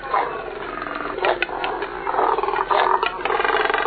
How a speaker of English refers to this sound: These deep, guttural sounds emanate from a nesting colony of double-crested cormorants, large black water birds with short legs and long necks.